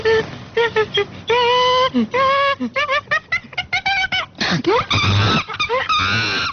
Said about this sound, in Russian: Обезьяна.